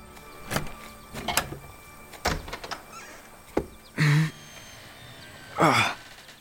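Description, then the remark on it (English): The large, heavy wooden doors of a deserted waterside house being opened: a few dull knocks and clunks of latches and handles, then two loud, drawn-out creaks as the doors swing, with no one speaking. “Thankfully, it was deserted, so we made our way through the large wooden doors.”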